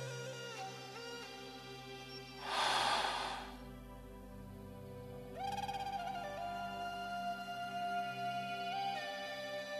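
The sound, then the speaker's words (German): A single deep, airy breath rises and fades over a few seconds during a breathing exercise, set against soft, sustained ambient music tones that continue throughout. No one speaks. “Wir atmen dreimal ganz tief ein, halten den Atem und atmen vollständig wieder aus.”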